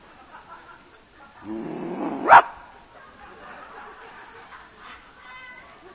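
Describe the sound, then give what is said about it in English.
A speaker briefly growls at the audience like an animal, a rough, rumbling sound about a second long that ends in a sharp, bark-like burst, followed by quiet. “Legally, that's about all I can do to you, is growl at you.”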